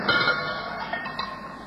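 A few sharp, metallic cowbell strikes ring out at an uneven pace over a steady musical backing, moderately loud and close.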